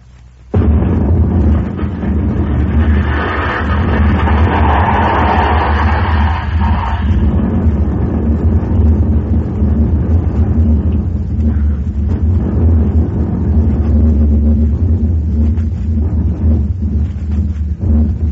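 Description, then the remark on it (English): A sudden blast opens into a loud, sustained roar as a rocket headed for the moon with Dr. Natyrboff launches from a mountain: deep rumbling low end with crackling noise above, holding steady for about eighteen seconds without any voices. “That explosion just blasted the whole network off the air.”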